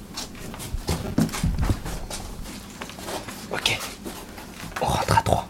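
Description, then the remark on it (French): A dog barks in short bursts amid busy background noise, with shuffling, footstep-like thumps and indistinct voices. The loudest burst comes near the end. “Chien, silence.”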